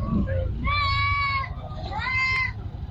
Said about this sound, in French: Nous sommes à Garbal, le marché du bétail de Bobo-Dioulasso. Jadis rempli de moutons à l'approche de Tabaski, il présente cette année un visage inhabituel. Les camions qui arrivent sont scrutés mais n'apportent aucune bonne nouvelle.